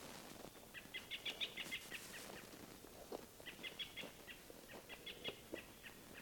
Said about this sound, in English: robins are calling, giving like alarm calls all through the woods.